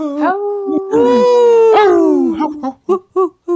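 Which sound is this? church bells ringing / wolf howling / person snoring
wolf howling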